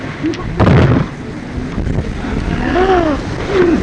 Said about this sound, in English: Okay. I'm going to throw the dice.